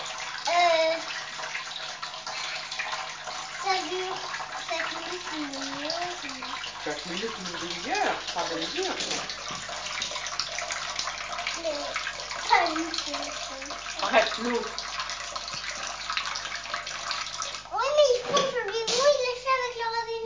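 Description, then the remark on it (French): Water runs steadily from a bath tap, a constant rushing hiss that lasts the whole time, while voices, including a child's, talk over it now and then. “Non, pas avec le robinet, avec la main.”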